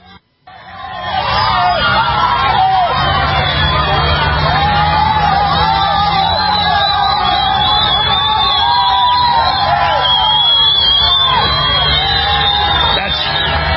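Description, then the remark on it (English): Thousands of people run across the border in Texas at night, yelling, whooping and screaming all at once, a dense, loud, unbroken roar of many voices that carries on for the whole stretch with no clear individual words. “Thousands of people just running across the border, yelling and screaming like they're an invading army”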